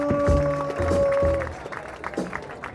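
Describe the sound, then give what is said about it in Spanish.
An audience claps and cheers in a dense, steady burst. A sustained horn-like tone and low rumbling notes sound over the first half, then the clapping carries on alone, slightly quieter. “¡Aplauso!”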